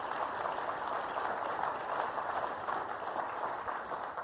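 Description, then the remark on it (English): Steady, dense applause from a large crowd fills the whole stretch, a continuous wash of clapping at even loudness with no voices standing out, tapering only slightly at the very end. “How about a round of applause for all of that?”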